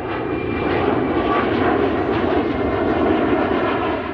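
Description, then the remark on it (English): Steady, loud airplane engine noise roars continuously on an airport tarmac in the Arizona desert, a broad rumbling drone with a faint high whine, unbroken, with no voices. “And within hours, he was standing on a plane, or he was on a plane to Arizona, standing on the tarmac in the desert and making a statement.”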